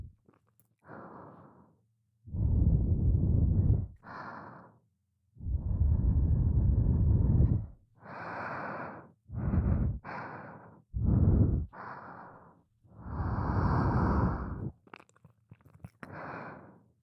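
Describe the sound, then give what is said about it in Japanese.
Soft breaths exhaled onto the listener's ear, a string of about a dozen airy sighs and puffs in an uneven rhythm, some longer and deeper, with no talking. “舐められてもっと敏感になってるから、私の吐息がかかるだけでも気持ちいいね。”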